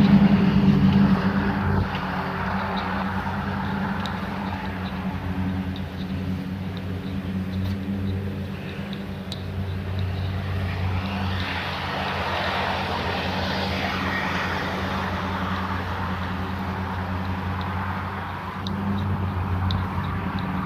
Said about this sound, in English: Two or three lawnmowers going over there. Just from the way the sound's moving around in the space. could be one of the big vacuum trucks.